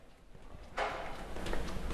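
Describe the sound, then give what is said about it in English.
After a quiet start, an electronic office door lock, unlocked by pressing a button, gives off a sudden bright clinking, faintly bell-like, followed by a softer second click and a low rustling clatter. No one speaks. “But when you hit that button to unlock the door so you can get out, there's this little clinging sound. It almost sounds like a tinkling of a bell.”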